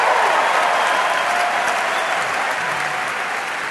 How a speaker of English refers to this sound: All right. Hey, hey, let's make Ted, could we all applaud for Ted?